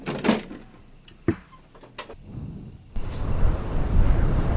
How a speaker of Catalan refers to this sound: Oh no! Què passa? S'ha obert la finestra! Anem a veure què passa. Segurament és un ratolí. No, ha estat un cop de vent.